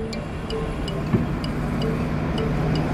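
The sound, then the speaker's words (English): Steady, low rumbling engine noise of the number 24 bus on a city street, whose route goes through Leicester Square near Chinatown, holding at a constant level throughout, with faint regular ticking clicks above the drone and no voices. “Will that bus take me anywhere near Chinatown?”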